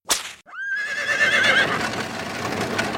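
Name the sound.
horse neighing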